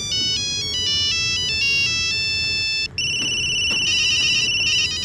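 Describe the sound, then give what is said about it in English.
A loud electronic cell phone ringtone on a train plays a quick, hopping melody of bright beeping tones, then shifts to a rapid, steady warbling trill over a low, rumbling background hum. “These days, it's hard to get away from cell phones, even on the train.”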